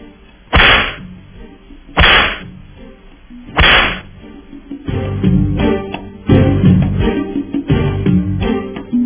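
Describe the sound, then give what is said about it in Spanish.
Three sharp, loud whip cracks snap out at steady intervals, followed by a busier stretch of further lashes and thuds against a rumbling background, with no voices present. “Entonces vamos a darles los latigazos, ¿verdad?”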